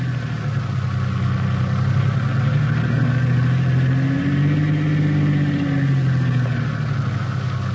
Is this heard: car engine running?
yes